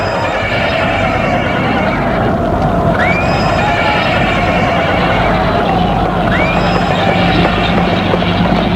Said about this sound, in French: Le cheval semble paniqué.